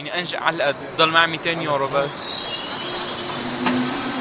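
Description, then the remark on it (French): A person speaks briefly, then the Euronight 220 night train, nicknamed the train of hope, rolls into the station at 22:55 with a steady low rumble and high, thin brake squeals ringing over it as it slows. “22h55, l'Euronight 220, rebaptisé le train de l'espoir, entre en gare.”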